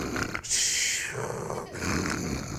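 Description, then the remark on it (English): A person imitates the snoring of someone who has been choked out and put to sleep: a loud raspy hiss followed by rough, rumbling throat snorts, repeated over a couple of breaths with no talking. “they go like this, and they just start snoring.”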